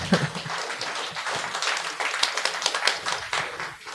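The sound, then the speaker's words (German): A live audience, prompted by a person holding up a sign reading 'Klatschen' (clap), claps steadily for several seconds, a dense, crackling wash of many hands at moderate loudness, with no voices over it. “Jetzt diesen einen Menschen, der dieses Schild hochhält, wo genau. Klatschen draufsteht.”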